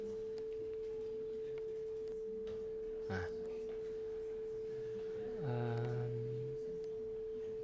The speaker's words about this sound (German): Ja, jetzt haben wir hier, also zunächst mal einen Sinuston zu hören. Das ist ja nicht so furchtbar schwierig. Wir machen vielleicht noch ein kleines bisschen lauter.